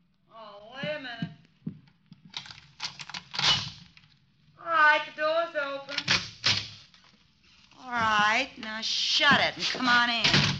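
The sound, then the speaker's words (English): The door of hotel room 306 is unlatched and swung open with a few sharp clicks and a dull knock, while people talk over and between the sounds. “Right, now shut it and come on in.”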